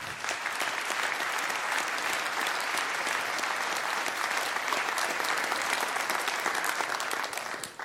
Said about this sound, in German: Ich denke, dafür nochmal ein ganz großer Applaus.